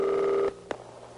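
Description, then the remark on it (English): A single steady electronic ringback tone of an unanswered phone call hums over the line for about half a second, then cuts off, leaving faint line hiss and a small click. “No, I'm hearing it ringing.”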